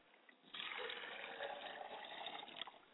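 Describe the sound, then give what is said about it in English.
Water pours steadily into a glass for about two seconds as a libation for ancestors, a bright splashing stream that starts abruptly and stops just as suddenly, with no talking. “I pour a glass of water for my father's side of the family, and I say Ashe.”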